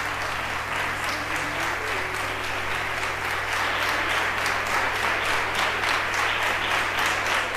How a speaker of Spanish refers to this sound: Los aplausos que escucháis corresponden a la entrada de Dolores Vázquez en el auditorio del Ministerio de Igualdad en Madrid el pasado 27 de abril, en el acto que le concedía la medalla de la promoción de los valores en igualdad.